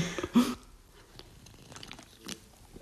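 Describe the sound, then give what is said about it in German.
A quick sip from a drink: a short, soft slurp near the start, followed by faint wet mouth clicks and swallowing sounds, with no talking. “Gut, ich nehme dann nochmal einen Schluck von meinem.”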